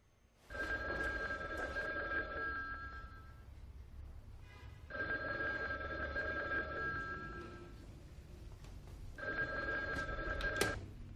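A telephone rings in three long bursts separated by pauses, each ring a steady electronic trill at moderate volume, with faint room noise underneath and no talking.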